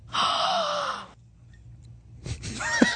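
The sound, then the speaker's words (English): An audible inhale lasting about a second, a sharp breathy gasp with a slight whistling edge, followed by near silence and then a softer rustling breath at the end; a famous person breathing in a spoken-word recording. “That's not a voice. That's just breathing.”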